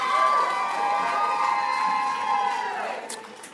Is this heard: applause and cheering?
yes